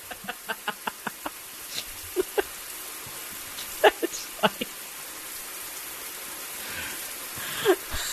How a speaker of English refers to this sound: No, what is that? Oh, that's a shower. Apparently the sound effect a shower. Of a shower.